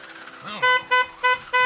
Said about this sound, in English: I drove my car into the garage in the basement of my apartment.